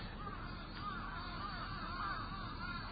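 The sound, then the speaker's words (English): Crows caw repeatedly in a series of harsh, hoarse calls, fairly quiet over a steady outdoor background hum, with no one talking. “Like, the crickets sound a little different, crows sound a little different.”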